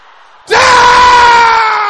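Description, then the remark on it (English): An audience of men shouts a prayer in unison, bursting into a loud, sustained shout, many voices blending into one powerful roar that holds steady for over a second after a brief quiet start. “Brothers, shout it loud and clear.”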